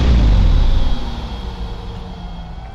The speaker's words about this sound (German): Krass, das Ding schnurrt immer noch.